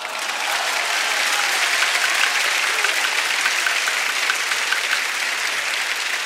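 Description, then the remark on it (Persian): A crowd claps steadily and loudly for about six seconds, a dense, even wash of hand claps with no voices rising above it. “شما به دست زدن عادت کردین، کیف هم میکنین”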